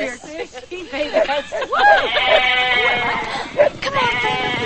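sheep bleating

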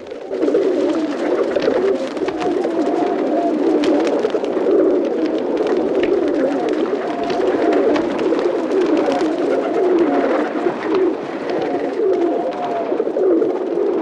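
pigeons cooing and flapping

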